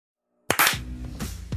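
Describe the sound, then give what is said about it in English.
After a moment of silence, a sharp, loud hand clap rings out as a sync clap at the start of a recording, quickly followed by a second, with a lingering hum and another crisp clap near the end. “If you guys are there, do the clap and get going.”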